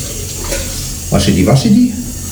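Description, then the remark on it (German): Hands being washed under a running tap: a steady, hissing stream of water splashes throughout, while a voice briefly murmurs over it midway. “So, waschen.”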